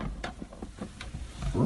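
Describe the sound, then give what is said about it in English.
A person imitates a lion's roar, a short rough growl pulsing in quick bursts and swelling louder toward the end. “Well, you can't help it. I'm just a lion.”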